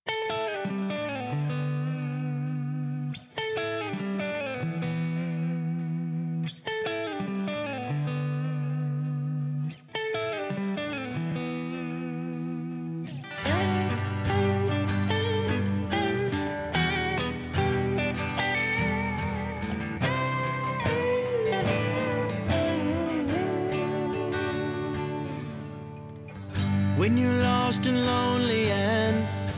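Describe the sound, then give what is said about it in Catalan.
A mellow rock intro: a clean, effects-laden guitar phrase repeats a few times, then the full band crashes in with drums and cymbals, building to a fuller, louder instrumental passage. “Ara anem a disfrutar des d'aquest …, d'aquest tema, doncs, tranquil, però amb moltíssima capacitat i, sobretot, feeling”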